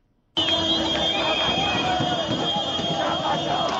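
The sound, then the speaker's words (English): A loud, dense crowd of Zimbabweans roars and cheers continuously, celebrating the end of Robert Mugabe's rule, with steady sustained car horns running through the din and voices shouting over one another throughout. “The wild cheers and car horns of Zimbabweans celebrating the end of Robert Mugabe's iron-fisted rule.”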